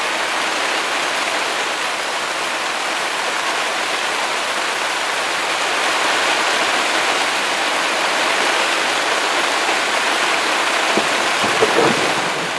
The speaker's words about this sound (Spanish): Unas lluvias torrenciales alejan a los carroñeros. El riachuelo se convierte en un río cargado de limo.